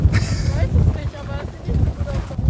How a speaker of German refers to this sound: Ich glaube, wir müssen umziehen, weil das wird zu windig.